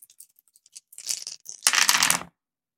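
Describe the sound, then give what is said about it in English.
Dice rattle and clatter as players roll again in a dice game: a few light clicks, a brief shake, then a louder burst of tumbling as they roll across a hard surface before stopping abruptly. “Right, now let's all roll again.”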